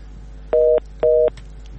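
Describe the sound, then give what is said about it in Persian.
Two short, steady electronic phone-line beeps sound in an even on-off rhythm over a faint background hiss as a listener's call drops during a call-in show on Radio Azadi. No one speaks. “متاسفانه که تماسشان قطع شد.”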